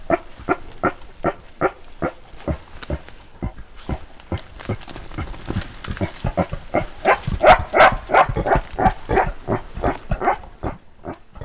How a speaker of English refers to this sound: The first one we're going to hear is what she labeled a pig grunt, and it's a sound made by the gorillas as a mark of annoyance or a warning to others to stop what they're doing.